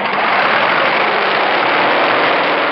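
A small auxiliary starter motor of about 25 horsepower, rolled up beside a jet plane to crank its engine, runs loud, a steady, unbroken mechanical roar with a hissing edge, holding the same level throughout with no speech.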